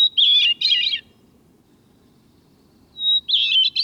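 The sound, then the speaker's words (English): A hermit thrush sings atop a narrowly tapered evergreen in a cool western mountain forest: a clear, high song in two bursts of rapid warbling notes separated by a quiet pause, with a soft low rumble of background ambience throughout. “High in the western mountains and forests of the north, where even the long summer days stay cool, a beautiful song echoes.”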